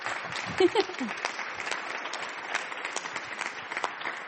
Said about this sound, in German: Das ist Ihr Applaus. Dankeschön.